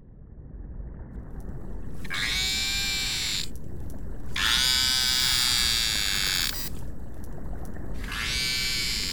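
A baby beluga calls its mother three times, each a long, high, buzzy and harmonic-rich cry, heard over a steady low rumble of underwater noise with no voices.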